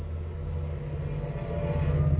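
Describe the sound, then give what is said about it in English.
A train rumbles past outside, a steady low drone with a deep engine hum that swells slightly toward the end, with no voices. “Even the train agrees.”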